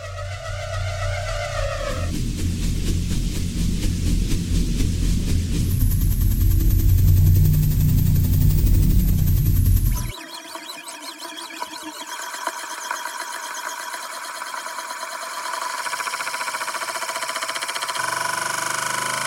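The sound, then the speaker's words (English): A string of rotating prop sounds, from a range of props spanning ball bearings to trash cans: a loud, heavy rolling rumble and grinding for about ten seconds, then a quieter, higher metallic spinning whir with a steady tone. No one speaks. “And what it is it's a range of props that all somehow rotate, everything from ball bearings to trash cans, and all recorded at 192 kilohertz sampling rate.”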